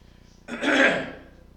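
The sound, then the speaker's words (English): A single rough throat-clearing cough, caused by green pollen, bursts out abruptly, lasting just under a second before trailing off into quiet. “I mean, the green pollen is out, folks, and my cough will be persistent, most likely between now and the time the green pollen stops, so please forgive me.”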